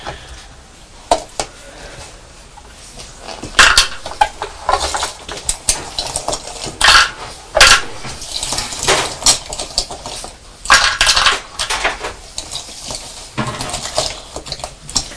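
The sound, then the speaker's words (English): Plastic alphabet fridge magnet letters, each with a black magnetic strip on the back, clack and click irregularly onto a metal baking sheet and stick to it, with sharp taps, light scraping and rattling as pieces are shuffled around. No one speaks. “Just wondering whether they would stick to this baking sheet.”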